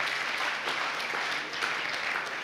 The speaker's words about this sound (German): Ihr klatscht, aber wer mich kennt, weiß, ich hänge davor.